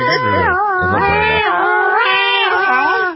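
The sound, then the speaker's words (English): A person's voice imitates a wailing New York siren, a loud, continuous tone that rises and falls in pitch for about three seconds before cutting off. “Why do sirens in New York sound different than ones anywhere else?”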